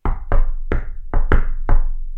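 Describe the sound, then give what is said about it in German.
Six loud knocks on a table, tapping out the rhythm of the Super Mario Brothers theme in an uneven pattern with short pauses between groups, each thud ringing briefly. No one speaks. “Für mich klingt das nur nach einem Vollidioten, der am Tisch klopft.”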